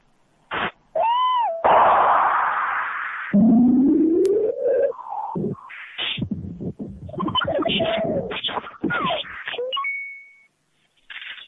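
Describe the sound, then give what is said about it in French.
Electronic music with rising synthetic glides, bleeps and warbling tones that evoke a tawny owl's hoots and calls, loud, shifting in bursts before ending on a steady high tone. “comme ce devenir insecte électronique qui atteint même un devenir moléculaire, selon l'expression de Deleuze, mais est précédé d'un devenir gros oiseau, plus précisément peut-être d'un devenir chouette-ulotte, écoutez.”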